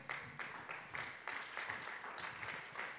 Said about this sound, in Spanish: Amén. Aleluya, un aplauso al Señor.